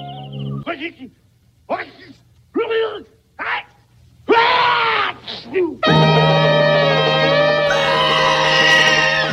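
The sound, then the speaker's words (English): A person lets out a series of short, wailing screams with rising and falling pitch, growing louder and longer, before a loud, sustained burst of music takes over. “That scream makes me laugh every single time.”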